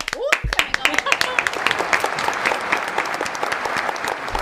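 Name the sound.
audience applause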